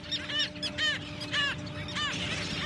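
Wild ducks call repeatedly, about five nasal, quacking bursts in a loose rhythm, over a steady low background hum with a faint constant tone.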